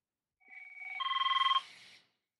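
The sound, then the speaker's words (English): A new phone rings with a rapid electronic trill, a fast pulsing tone that builds in loudness for about a second before cutting off, heard clearly with no one talking. “And I can't find my Do Not Disturb button. I've got a new phone.”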